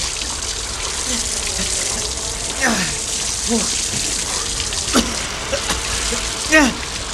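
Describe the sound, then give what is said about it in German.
A garden hose sprays water at low pressure onto a burning stack of car tyres in a steady, continuous hiss, with brief voices calling out over the rushing spray a few times. “Obwohl der Druck aus dem Schlauch nicht besonders groß war, gelang es den beiden, den Brand nach einigen Minuten einzudämmen.”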